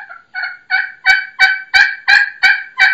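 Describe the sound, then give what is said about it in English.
A slate pot call for turkeys yelping in a steady run of about nine raspy notes, each starting with a sharp scratch and growing louder as the sequence goes on, with no voices. “I like a slate because you can purr on it. You can cluck on it.”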